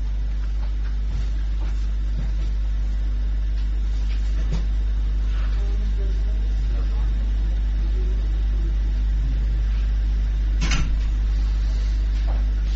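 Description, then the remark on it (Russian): A neighbour's car engine revs and rumbles steadily outside, a deep continuous drone with a few scattered knocks and thumps, and faint voices now and then in the background. “Хороший знак. Газ сосед.”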